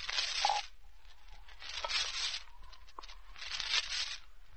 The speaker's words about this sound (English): Get the glasses. Drop in the ice. Open the bottle. Pour out the Coca-Cola.